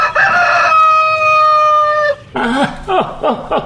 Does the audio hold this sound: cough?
no